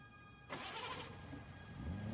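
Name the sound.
car engine starting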